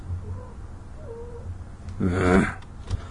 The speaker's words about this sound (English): every 4 minutes or so, my smooth, luscious voice just turns the cat on, and then she's like, let's have intercourse